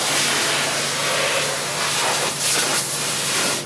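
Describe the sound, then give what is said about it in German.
A loud, steady rush of blowing air hisses continuously as a man in an orange vest cleans dust from beneath a train further back along the platform at Mora station, with bursts of stronger blasts toward the end, set against a low mechanical hum; no one is talking. “Währenddessen macht ein Mann in orangefarbener Weste weiter hinten am Bahnsteig den Zug von unten sauber und dabei ordentlich Lärm.”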